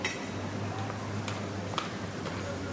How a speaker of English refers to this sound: It's a horse hitting its right front hoof against the sidewalk. These are the horses and carriages that are all over Quebec City. They're all numbered. They're all over the place. And this horse was just clomping, clomping, clomping.